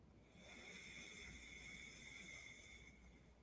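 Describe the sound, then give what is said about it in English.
A single slow, steady breath pushed out through the left nostril during alternate nostril breathing, an airy hiss with a faint whistling edge lasting about three seconds, with no talking. “Shifting nostrils and breathing out through the left.”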